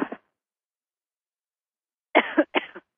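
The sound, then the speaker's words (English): A brief cough at the start, then a long silence before two harsh coughs in quick succession near the end; no talking. “having a good cough, I think.”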